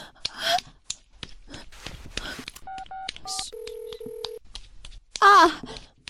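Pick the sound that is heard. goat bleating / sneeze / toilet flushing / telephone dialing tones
telephone dialing tones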